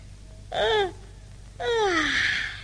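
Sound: loud yawn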